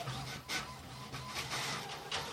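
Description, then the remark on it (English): A DeskJet inkjet printer whirs steadily with a low mechanical hum, punctuated by repeated brief swishing bursts as the print head sweeps back and forth in a regular rhythm. “No, well, it's a desk jet.”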